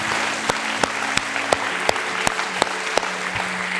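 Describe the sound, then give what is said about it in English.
A worship audience claps in praise of Jesus in a dense, steady wash of applause, punctuated by sharper, evenly spaced louder claps, with soft sustained musical tones humming underneath. “Let's give Jesus one more hand clap of praise.”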